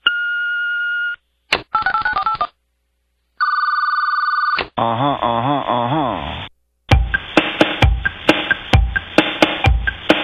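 Electronic telephone ringing and beeping tones in loud bursts: a steady tone, a warbling trill, another long tone, then a sliding melodic ring and rapid rhythmic chirping.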